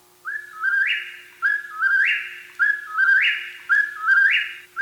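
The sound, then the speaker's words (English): A whip-poor-will calls four times in steady succession, each loud, clear whistled phrase rising and ending sharply, with no other sounds around it. “Whippoorwills are another bird named for their call.”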